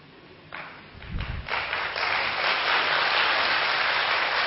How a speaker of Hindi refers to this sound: क्योंकि मनुष्य ये सोचता है, जिनको डायबिटीज है वो धीरे ताली बजा रहे हैं कि पता नहीं ठीक है या नहीं, आप सबने तेज बजाई, ठीक है।